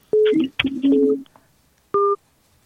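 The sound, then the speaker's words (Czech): Electronic telephone line tones as a phone call drops: a quick cluster of clear, loud beeps, then a short silence and one final steady beep, with no voices. “Tak hovor nám tady vypadl, takže vemu další.”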